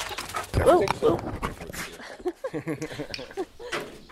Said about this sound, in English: You're okay with dogs, no? He has a couple of big German shepherds. You can hear one of them jumping into my mic.